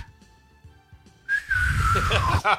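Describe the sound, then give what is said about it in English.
After a quiet start, someone whistles to imitate a whistling Nerf football in flight, a loud, airy tone that slowly slides downward for about a second before cutting off with a short burst. “I'd go with the old school whistling Nerf football.”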